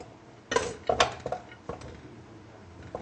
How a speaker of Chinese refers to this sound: 那我们现在把它拿去煮。 好。 先把那些材料放进锅里去。